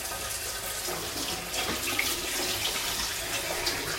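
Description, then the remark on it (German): A sink tap runs steadily, a continuous hiss and splash of flowing water that holds level for the whole stretch, with no voices. “So, jetzt mache ich das Wasser raus, oder?”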